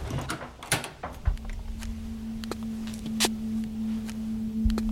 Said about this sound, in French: Et moi, j'ose pas, je suis pas chez moi. Donc voilà, on ouvre la porte.